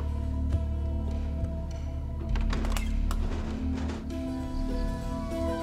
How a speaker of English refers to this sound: She swings the door open and steps out into the lamplight and down the porch steps, dragging the rope behind her.